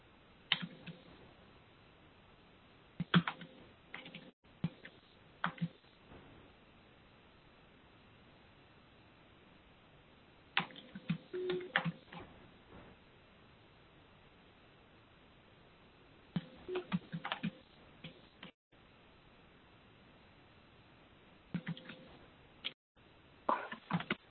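Bursts of keyboard typing, a message being typed into an online meeting chat, come in quick clusters of clicks, separated by short pauses over a faint steady hiss. The keystrokes are moderately loud, with no one talking.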